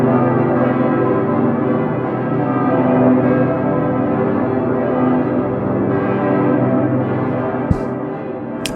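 Several large bells of Cologne Cathedral peal together in a dense, continuous wash of overlapping strikes, anchored by the deep booming bass bell, the Decke Pitter, on a low C, loud and sustained throughout with no voices.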